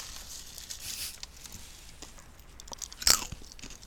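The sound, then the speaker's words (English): Crunchy chewing of a snack from a bag, a steady run of crackly bites with one sharp, louder crunch near the end; no one speaks. “I'm still chewing, by the way.”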